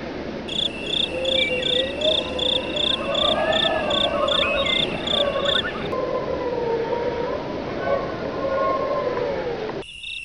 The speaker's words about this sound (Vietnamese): Màn đêm buông phủ, tiếng gió hú quái đản len lỏi qua các khe cửa kiến bể, khiến mấy tấm ván lỏng xúc đinh phát kêu kèn kẹt, hòa cùng những âm thanh vang rền của bọn côn trùng ếch nhái.